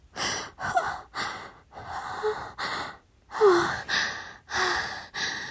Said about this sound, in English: Oh, sorry, I'm just like panting in your ear